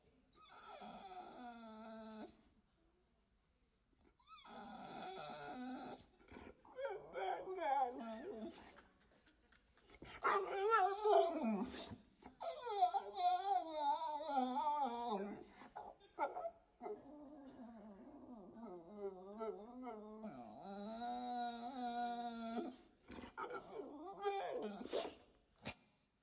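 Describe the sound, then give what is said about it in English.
A little dog named Jaira whimpers and whines in long, repeated high-pitched bursts with sliding pitch, broken by brief pauses, turning rougher and more growl-like midway, with no one talking. “And so when I think about a picture of persistence, I think about our dog, Jaira.”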